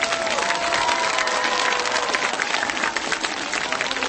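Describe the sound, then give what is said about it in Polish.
A large audience applauds a band after its song, dense clapping filling the space with scattered cheers and whistles rising above it, sustained and fairly loud throughout. “brawa dla nich!”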